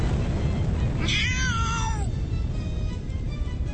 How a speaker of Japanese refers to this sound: 少女の足元で使い魔らしい悪魔の猫がネズミを捕まえた時のような誇らしい鳴き声を上げた。